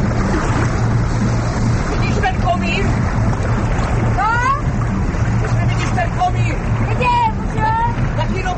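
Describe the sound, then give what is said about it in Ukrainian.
Three motorboats carrying spectators and actors set off along the Vltava river from a small theatre studio on its bank; engines drone steadily over rushing water and wind, a continuous low rumble with no pauses, while faint voices and occasional chirps come through in the background. “Від невеликої театральної студії на березі Вовтави річкою вирушили три катери із глядачами і акторами.”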